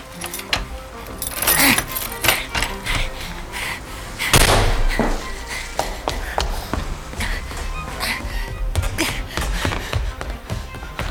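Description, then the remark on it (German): Keys jangle and rattle in a lock as the door of Mrs. Winterfield's house, right behind the scrapyard, is unlocked with her key, with repeated metallic clicks and a louder clunk midway, without any talking. “Der Schlüssel von Mrs. Winterfields Haus.”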